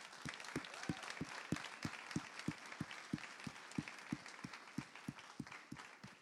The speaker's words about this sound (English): So can we give our moms in here a big hand clap?